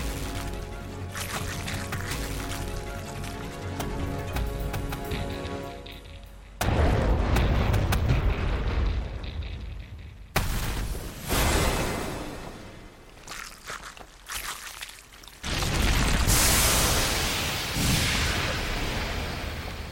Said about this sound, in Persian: این چیه؟ صدای شلیک توپو شنیدم و بعد یه گرمای شدید و صدای انفجار تولید شد.